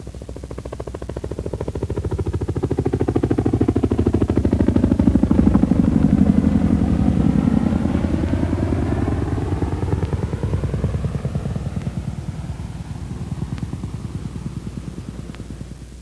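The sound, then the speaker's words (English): A U.S. Army CH-47A Chinook tandem-rotor helicopter flying at 120 knots passes by with loud, rapid rotor banging, a steady chopping pulse over a low engine roar that swells toward the middle and then fades as it moves away. “The loud banging produced by the rotors carries over long distances and makes the A model easily detectable.”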